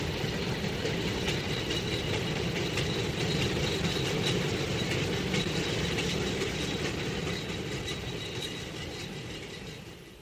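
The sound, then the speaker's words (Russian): A train rumbles steadily along the rails with a dense, grinding roar and rattling wagons. The sound stays loud, then gradually fades as it pulls away. No one speaks. “Да, пустите, это же мой поезд.”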